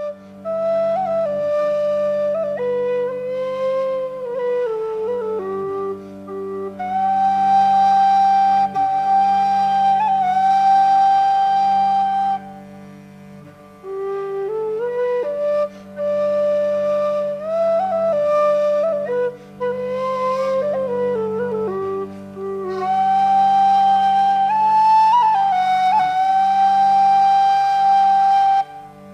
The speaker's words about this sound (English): we're listening to Ronan Brown on whistle here and Malachy Robinson on bass violin